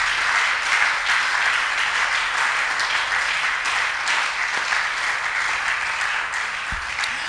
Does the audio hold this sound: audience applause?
yes